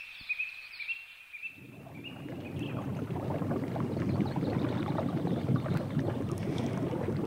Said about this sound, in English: Here we are, basking in all these deliciously warm bubbles.